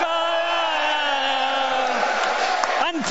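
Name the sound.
stadium crowd cheering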